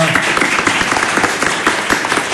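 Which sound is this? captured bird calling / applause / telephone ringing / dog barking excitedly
applause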